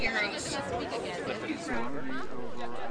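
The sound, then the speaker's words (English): Dense crowd chatter with many overlapping voices forming a steady, busy murmur of a crowd gathered at Queen's Park on 15 March 2008 to protest Canadian imperialism, with a few louder voices rising above the babble. “On 15 March 2008, this crowd gathered at Queen's Park to protest Canadian imperialism.”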